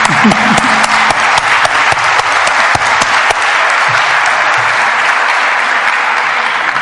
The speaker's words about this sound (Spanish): Un aplauso para la doctora.